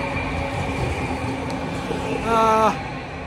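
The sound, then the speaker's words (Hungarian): A tram rumbles past on a street, with a steady low drone of traffic and a brief harmonic whine or squeal near the end as it goes by. “Itt egy villamos, tök jó.”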